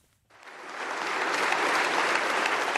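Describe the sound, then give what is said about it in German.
Members of the Ukrainian parliament in Kyiv give a standing ovation at a session with Polish President Andrzej Duda, starting abruptly after a brief silence and swelling into a dense, steady roar of clapping hands that holds strong to the end. “Stehender Applaus der Abgeordneten und eine innige Umarmung zwischen Polens Präsident Duda und dem ukrainischen Präsidenten Selenskyj.”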